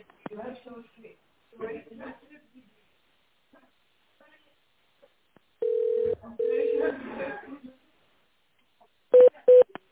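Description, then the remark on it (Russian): Touch-tone telephone dialing of an extension number in tone mode, on a call to the engineering firm Tsentr Servis: two steady, fairly loud beeps come in quick succession, then after a pause two shorter key tones, with muffled voices speaking before and between them. “Наберите внутренний номер абонента в тоновом режиме или дождитесь ответа оператора.”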